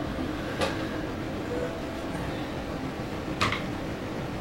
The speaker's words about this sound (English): And then like a heavy stone, like a counterweight moving, and then the door slowly opens up, and you guys can...